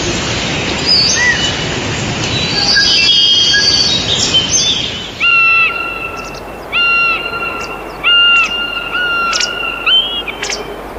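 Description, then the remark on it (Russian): A common buzzard gives a series of about five short, plaintive mewing calls at a steady pace, clear over a rushing outdoor background. “Конюки. Название этой птицы дали за протяжный жалобный крик.”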